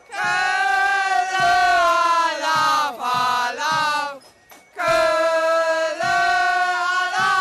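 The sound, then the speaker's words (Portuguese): A large carnival crowd in Cologne shouts the traditional carnival greeting, meaning 'Cologne above all', repeated three times in unison, loud drawn-out chanting voices rising and falling, a brief pause, then the massed cry surging back just as strongly. “Sem nunca se esquecerem de gritar a tradicional saudação, repetida 3 vezes...”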